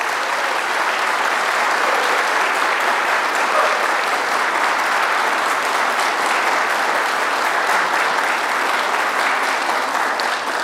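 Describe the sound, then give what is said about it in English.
Sustained applause for the students from an audience at St. Mark's Lutheran Church and School on a Sunday morning, a dense steady patter of many hands clapping at an even, loud level for about ten seconds with no voices over it. “First and foremost, why don't we give the students a round of applause.”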